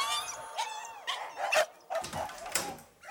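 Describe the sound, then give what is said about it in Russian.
A dog lets out a string of short barks mixed with high, whiny whimpers and yelps, moderately loud, with no one talking. “Мне собака руку покусала.”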